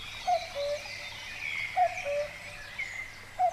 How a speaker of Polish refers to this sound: Zapraszamy na uroczyste otwarcie, świergotały skowronki polatujące nad polami.